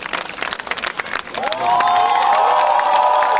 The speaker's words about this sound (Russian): встречайте! Светлана Собрянова и оркестр, ваши бурные аплодисменты!